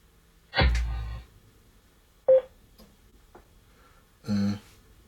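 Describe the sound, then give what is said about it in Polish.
A portable Bluetooth speaker is switched on and sounds its electronic start-up chime, then a short single beep and, a few seconds later, another brief tonal chime as it pairs with a phone, all clear with no talking. “No i teraz odpalamy nasz głośnik.”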